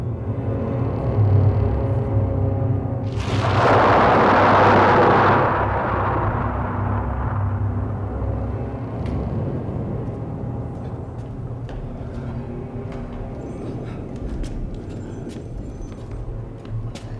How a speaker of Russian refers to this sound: Другой конец степи. Буря продолжается.